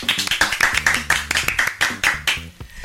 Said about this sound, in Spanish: Oiga, quiero que me regalen todos los que están acá presentes un fuerte aplauso porque regresó nuestra directora.